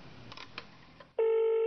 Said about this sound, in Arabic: صوت رنين المتقطع